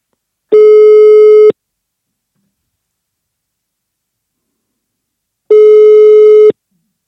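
A phone ringback tone: two steady one-second beeps separated by about four seconds of silence, clear and fairly loud, with no voices.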